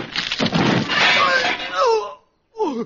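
A loud crash of a camera being smashed over a man's head during a film scene, breaking with clattering debris, followed by short vocal yelps and cries after a brief pause.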